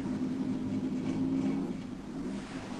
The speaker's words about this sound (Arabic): حسنا، أليس هذا قارب إنقاذنا الجديد؟